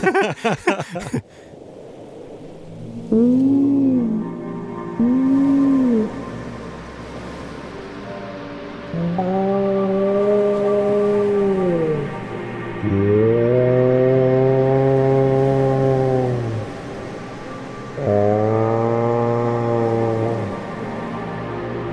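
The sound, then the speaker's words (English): Whale song rings out underwater in the depths of the Atlantic Ocean: two short paired whoops followed by several long, rich moaning calls that bend up and down in pitch, echoing over a low, steady ocean rumble. “Here, in the depths of the Atlantic Ocean, it's amazing to think that one day all of these majestic whales will be crabs.”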